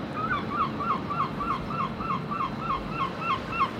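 Seabirds nesting at Dunbar Harbour call over and over in a quick, steady series of short, nasal cries above a constant rushing background of wind and water.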